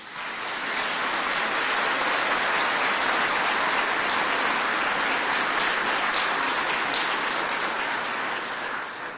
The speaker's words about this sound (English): You know what your applause says? Your applause says that you'd like to get to know them better.